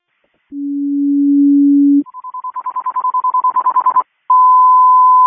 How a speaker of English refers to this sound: Message received, no change of quarters, just a general alarm.